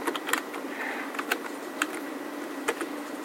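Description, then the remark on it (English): Sharp, irregular clicks of someone typing on a computer keyboard while creating a database table, several quick keystrokes spaced unevenly over a steady low background hum, moderately quiet, with no voices. “Try typing it without the slash.”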